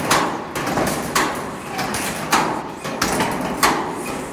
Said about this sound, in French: On entend les plaques de tôle qui bougent avec le vent et on marche sur des poutres en béton qui tiennent des grilles métalliques rouillées.